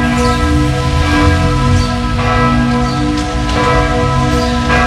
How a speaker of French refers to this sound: La pratique s'est généralisée en France à la fin du 11e siècle et aujourd'hui encore, tous les soirs à Strasbourg à 22h06, en souvenir de cette extinction des feux, retentit dans la cathédrale la Zennerglocke, la cloche du couvre-feu.